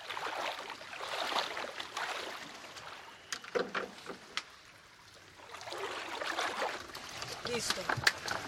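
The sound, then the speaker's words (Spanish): A motorboat moving across water, with a steady rushing wash of spray swelling and easing, a few sharp knocks in the middle, and faint indistinct voices underneath. “Nos montamos a la lancha.”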